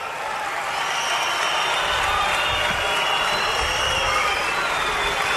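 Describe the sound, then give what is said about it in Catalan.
A large protest crowd applauds and shouts together in a steady, dense roar of clapping and voices that holds at an even loudness throughout, with no single voice standing out. “És una mica difícil, tenint en compte el que hem vist fins ara, que en general aquest tipus de protestes, els crits, els aplaudiments eren molt unitaris, distingir una mica què és el que està passant entre el públic”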